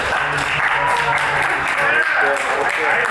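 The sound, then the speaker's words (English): An audience at a Write Club event votes for digital over analog by breaking into loud, sustained applause mixed with cheering and shouting voices, a dense steady wash of clapping that holds evenly for the whole stretch. “So, who votes for digital? Let's get by round of applause.”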